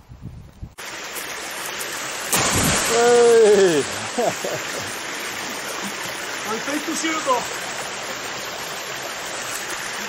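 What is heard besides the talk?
flowing river water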